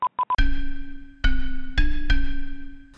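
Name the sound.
cell phone call ringing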